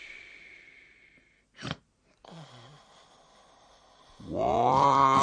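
Bernhard Blocksberg snores in his sleep: exaggerated, growling snoring that swells into a loud, rough, rasping roar at the end, preceded by a short sniff-like burst and quieter wheezing breaths. No one speaks.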